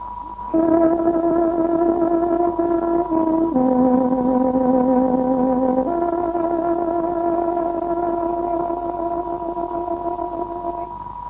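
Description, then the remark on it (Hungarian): A reedy tárogató plays the time signal marking 22:00 on Radio Free Europe's Hungarian shortwave service, a slow, sustained melody of long held notes, shifting pitch a few times, steady and fairly loud with a faint radio hiss underneath and no voices. “Kedves hallgatóink, pontos időjelzést adunk. Tárogatónk 22 órát jelez.”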